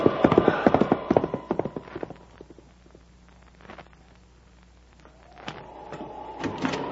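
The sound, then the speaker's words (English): Horse hooves clip-clop in a quick, steady rhythm, loud at first, then fading to a quieter patter before picking up again near the end; the horses are travelling toward Washington during a January sleet storm. “But come on, we'll soon have some fresh horses and then the last lap into Washington.”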